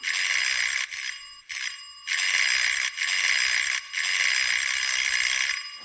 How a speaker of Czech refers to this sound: Pro pána, co zvoníte jako pominutí?